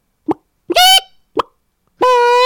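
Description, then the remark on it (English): A woman's voice imitates a chicken: two short, low clucks, each followed by a loud, nasal, high-pitched squawk, the second squawk held longer. No other talking is heard. “Do you want to hear my chicken imitation?”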